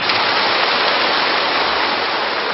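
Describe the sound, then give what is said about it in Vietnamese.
A crowd at a Vietnamese Buddhist dharma assembly applauds steadily, a dense, even wash of many hands clapping that stays loud throughout with no voices over it. “Các vị cho một tràng pháo tay.”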